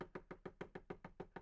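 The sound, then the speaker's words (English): Rapid, steady knocking on a wooden surface, about ten sharp raps in quick succession, fairly loud, with no voices. “If it was wood, there, that sounds better.”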